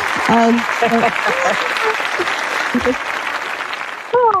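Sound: applause sound effect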